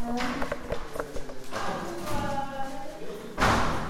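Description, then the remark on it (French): A door is opened with a series of dull thuds and knocks, then a louder, noisier bang near the end, heard over a voice-like tonal background. “Je vais voir si la porte est ouverte, elle est ouverte.”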